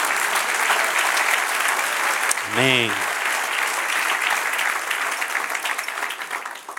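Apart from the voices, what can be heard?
audience applause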